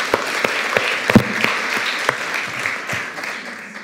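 An audience claps steadily, a dense wash of many hands with a few sharper individual claps standing out, sustained throughout at moderate loudness with no talking.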